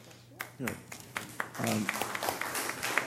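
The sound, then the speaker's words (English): A small group at a local government meeting claps for an ICMA award recognizing 10 years of dedicated service, starting with scattered hits and building into steady applause, while a voice speaks briefly underneath near the start. “he was getting too much applause today.”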